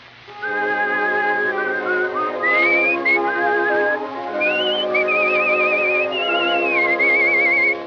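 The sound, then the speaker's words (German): A person whistles an imitation of a little female sparrow calling out: steady high tones broken by rising slides and quick warbling trills, continuous and fairly loud for about eight seconds, with no talking. “Fräulein Spätzchen zwinkert mit den Äuglein und ruft ihm zu.”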